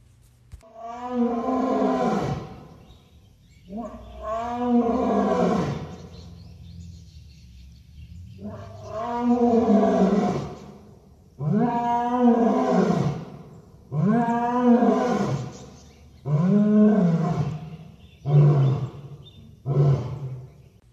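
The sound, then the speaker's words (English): A lion roars in a long, deep sequence: several full, drawn-out roars that shorten into quicker, punchy grunts toward the end, loud with no other sounds. “As you make a left around the playground and drive up the hill, be sure to look out on your left to get one last view of the lions and listen for a roar like this.”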